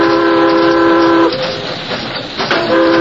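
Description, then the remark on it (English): A steam train whistle sounds a steady, loud, multi-toned warning blast at people on the tracks ahead, breaks off into the rumbling roar of the moving train, then sounds again briefly at the end. “Looks like a holdup to me. Give a warning!”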